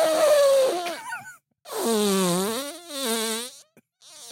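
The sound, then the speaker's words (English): A voice makes buzzy, sputtering raspberry sounds with the mouth, imitating a fart, in two or three wavering bursts separated by short pauses, loud. “I was making a fart noise in my mouth to like add the.”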